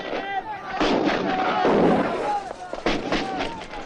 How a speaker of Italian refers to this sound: La cosa dell'incredibile, mentre ancora tuonavano i cannoni a Custoza, qui al campo del comando dove si trova il re Vittorio Emanuele, è arrivata la notizia che il generale La Marmora ha preso la decisione di ordinare la ritirata.